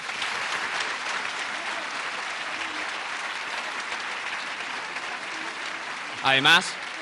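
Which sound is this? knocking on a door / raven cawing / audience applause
audience applause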